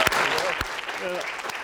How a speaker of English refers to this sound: Okay, and now a round of applause if we go ahead.